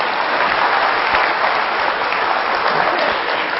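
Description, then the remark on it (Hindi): A crowd applauds steadily, a dense wash of many hands clapping at once, loud and sustained for a few seconds without pause. “220 करोड़ की गाड़ी है। भाई तालियां तो बजाइए।”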